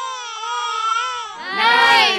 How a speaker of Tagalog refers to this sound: Nay! Umiyak na naman Nay,